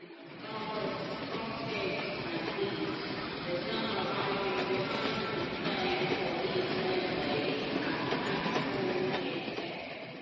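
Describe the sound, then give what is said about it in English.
A train arriving at a station rumbles and clatters steadily for the whole stretch, a continuous loud mechanical roar with a faint whining hum running through it and no clear pause. “The train arrived, and we waited for about a quarter of an hour.”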